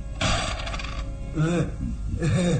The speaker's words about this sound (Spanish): En la habitación contigua a la gran sala, el barón de Tífano sonríe satisfecho al tiempo que le ofrece unas monedas de oro a su fiel criado, el gitano Sarco.